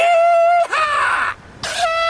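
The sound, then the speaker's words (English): A loud, brassy hooter signalling the start of a race down white-water rapids blares a steady, buzzy tone that bends into a wavering, harsher middle section, breaks off briefly, then returns with a sharp burst before settling back into the steady note. “On the sound of my hooter, I want you to mount up your riders, start up your engines, and hit those rapids.”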